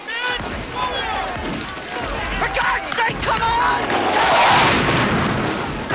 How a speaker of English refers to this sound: Shrapnel from an exploding cannon rips into a soldier's head, blowing it apart. Explosions and gunfire tear through the army.